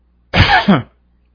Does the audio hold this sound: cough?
yes